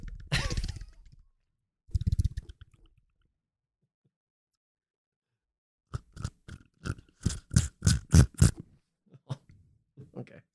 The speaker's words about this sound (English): Sound like you were slurping.